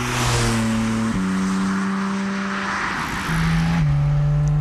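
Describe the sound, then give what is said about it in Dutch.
A sports car pulls away, its loud engine humming steadily and dropping in pitch at each gear change, with a rough, rumbling low end and no voices. “Nou, we rijden rustig weg.”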